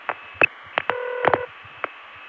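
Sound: phone line ringing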